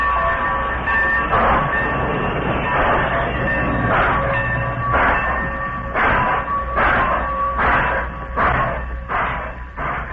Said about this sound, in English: The engineer obeyed, and the train moved out of the Modoc City station.